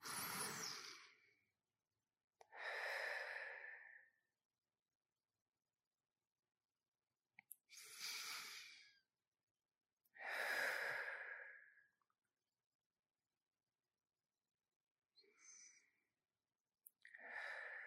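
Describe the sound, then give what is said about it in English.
Three slow, deep breaths drawn in and let out, each inhale and exhale clearly audible, with quiet pauses between them and no talking. “And then take three deep breaths to release as much tension as you can. So three deep breaths in and out.”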